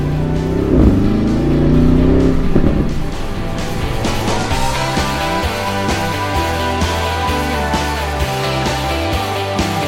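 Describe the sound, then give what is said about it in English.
A Porsche Cayenne Turbo GT engine revs and accelerates hard, rising through the gears with a loud, throaty roar, then settling into a steady high-speed drone. “Now, just flip down, give yourself a little bit of road, and just for all time's sake and for one more time, let's hear that engine.”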